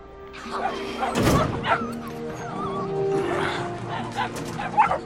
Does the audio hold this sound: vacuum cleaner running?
no